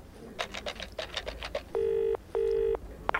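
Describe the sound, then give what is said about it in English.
A quick run of keypad-like dial clicks as a phone call is placed to a radio request show, followed by two steady, even ringing tones with a pause between them and a sharp click at the end; clear, no voices. “Pass me the phone, then.”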